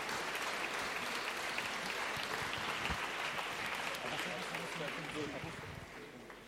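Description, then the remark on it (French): An audience at the Utopiales festival applauds steadily for the young readers' jury of a literary prize called on stage, a dense, sustained wash of clapping that holds level for several seconds, then gradually tapers off toward the end. “Vous pouvez les applaudir, ils ont vraiment beaucoup lu, beaucoup bossé.”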